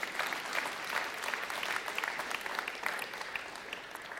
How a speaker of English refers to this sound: Well, do it right if you're going to clap, okay? Everybody do that.